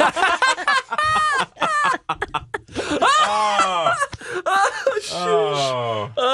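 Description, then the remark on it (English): A person imitates a duck, making a series of loud, nasal quacking squawks with rising and falling pitch, bunched together with short breathy pauses between them. “Do a duck quack.”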